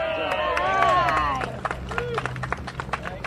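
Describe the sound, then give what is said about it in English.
A small crowd holding free small glass Coca-Cola bottles chatters and cheers together, celebrating a restored Coca-Cola advertisement sign in Hinton, West Virginia, with several overlapping voices, then the talk gives way to scattered, uneven clapping and brief murmurs. “A small crowd armed with plenty of free small glass Coca-Cola bottles gathered to celebrate a restored advertisement for the iconic brand.”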